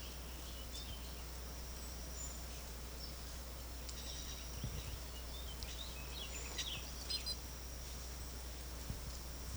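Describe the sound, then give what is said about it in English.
Faint, high-pitched chirps and brief calls from wild birds, including a greenback bird, come and go at scattered moments over a steady low hum, with no voices present. “Wildbird, greenback bird.”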